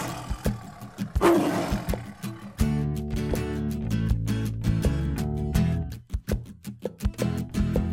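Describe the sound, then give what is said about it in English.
A single loud tiger roar bursts out near the start and lasts about a second, then gives way to bouncy music with steady percussive beats. “Look! I know! Let's see the tiger.”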